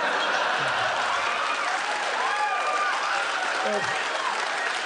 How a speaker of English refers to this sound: Don't encourage me. I think they're just applauding the payoff.